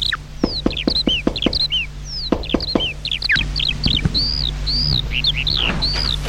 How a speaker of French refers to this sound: Après avoir remercié le paysan et donné la pièce, Charles-André va vers la maison, frapper à la porte.